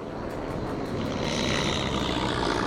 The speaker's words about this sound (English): They take off. There's a plane waiting for them. They fly out.